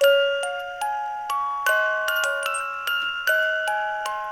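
A music box plinks out a slow, gentle Christmas melody, each bright metallic note ringing and fading before the next. It plays alone, with no voices.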